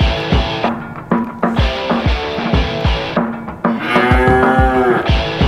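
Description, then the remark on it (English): Cow moos chopped and arranged into a bouncy, catchy jingle used as a bumper, over a steady thumping beat, loud, with a long drawn-out moo near the end and no one talking. “the idea, Brian, of combining the moos is really what”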